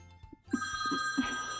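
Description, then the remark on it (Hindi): A mobile phone ringtone rings out, a bright steady electronic trill with sharp stacked tones that sustains from about half a second onward, fairly loud, over a low background hum. “रुको तो, mobile phone भी ना बार बार बजता रहता है, किसका फोन है?”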